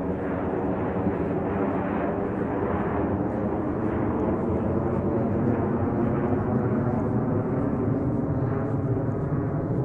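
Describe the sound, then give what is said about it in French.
A loud, steady roar of an airplane passing overhead at 6:15 in the morning, a dense low rumble that holds at full strength for the whole stretch, with no voices over it. “on va attendre que l'avion passe.”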